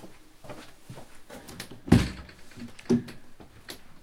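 knocking on a door

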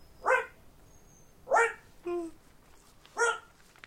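dog barking

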